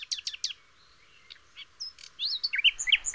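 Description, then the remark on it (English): Small birds chirp and sing in quick, high-pitched bursts, starting with a few sharp repeated tweets and building into a busier, overlapping chorus of twittering calls. “Here are those little birds again, singing songs about the teaching and learning experience at the Berlin School of Podcasting.”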